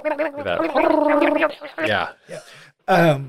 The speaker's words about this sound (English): And I feel like this is where we really get the piranha noise for the first time. Mm-hmm. I think it's in that first scene, but it's really mixed low. because we're above water, but now that we're underwater, we can really hear that.